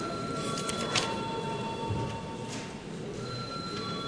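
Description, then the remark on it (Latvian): A parliament's voting bell rings steadily for several seconds as deputies are called to vote, its sustained high tones holding over a constant murmur of background noise and rustling. No speech is heard. “Deputāti, lūdzu balsojam, lūdzu zvanu.”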